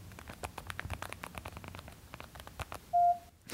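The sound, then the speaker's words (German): A fast, irregular run of small keypad clicks from a mobile phone as an SMS text message is typed, followed by one short, steady electronic beep near the end. “Ich habe auch immer noch den klassischen SMS-Sound. Ich muss jetzt eh gerade meine SMS schreiben.”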